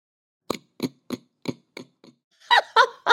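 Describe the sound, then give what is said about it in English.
A person imitates a pig: a run of six short, rhythmic grunts that grow fainter, then three louder, higher squealing snorts to finish. “I got really good at making a pig noise. Do you want to hear it?”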